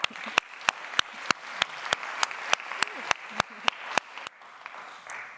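An audience at a student programme event applauds the educators in the room. A dense wash of clapping, with one set of sharp, evenly spaced claps standing out, thins out and fades after about four seconds.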